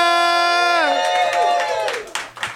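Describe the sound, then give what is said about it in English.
A pre-Christmas comedy club audience at the Lab at the Improv in Los Angeles, California, cheers in December: a loud sustained whoop slides downward in pitch, then gives way to scattered clapping and crowd noise. “What a hot, hot pre-Christmas crowd.”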